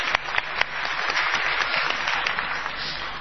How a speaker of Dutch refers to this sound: Zien. Hoe kun je zien dat God er is? Applaus.